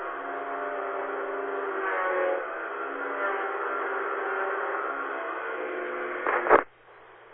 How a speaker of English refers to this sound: Is that like the landscapers? Yeah, they're weed whacking in the rain. Weed whacking in the rain, oh.